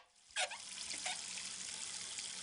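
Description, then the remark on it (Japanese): Running water from a tap starts abruptly and keeps flowing in a steady hiss, with a couple of splashy bursts as soapy hands are rinsed under the stream to wash off foam and dirt. No one speaks. “泡と汚れをよーく洗い流すとしよう。”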